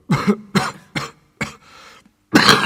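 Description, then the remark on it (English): A miner's violent coughing fit as he covers his mouth with a dirty handkerchief, from coal dust in the lungs: four harsh, hacking coughs in quick succession, a short breathy pause, then one last long, raspy cough. No one speaks. “Suddenly the miner began to cough violently, covering his mouth with a dirty handkerchief.”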